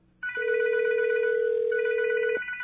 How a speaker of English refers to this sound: I'm going to access a dial tone here. I'm going to call my number.